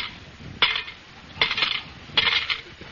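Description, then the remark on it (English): Coins totalling 40 cents drop one after another into a kitty, three bright metallic clinks spaced nearly a second apart, each with a short jingling ring-out, with no voices. “You put 40 in the kitty.”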